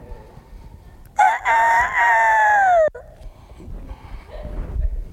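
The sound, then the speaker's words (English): A rooster crows once at a ranch around 5 in the morning, a loud drawn-out cock-a-doodle-doo lasting nearly two seconds, followed by quieter outdoor background noise with faint activity. “Got up 5 in the morning, and I went and kicked it with Jesus and the chickens out there in the ranch.”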